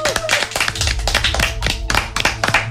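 A studio audience claps steadily and fairly loudly for a few seconds, with dense, overlapping hand claps close to the microphone and a faint low hum underneath.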